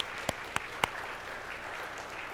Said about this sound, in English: And here we sit, 50 years later, because of that. And I think that deserves a round of applause for sure.